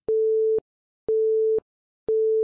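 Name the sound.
phone busy tone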